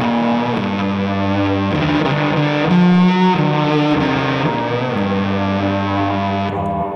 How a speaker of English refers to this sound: I think the fuzz that I probably use the most now is this Analog Man Peppermint. It's really good for lead stuff. And you can just tell it's not like the Muff is thick like that, and this just has a totally different tone.